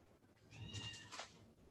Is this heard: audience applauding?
no